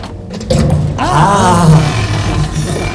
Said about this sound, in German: Die Tür! Endlich!